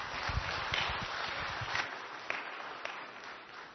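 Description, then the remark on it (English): An audience claps for a group of kids in a dense, steady patter for a few seconds, with some low thumps mixed in early on before the applause carries on a little lighter. “Give them a clap, guys.”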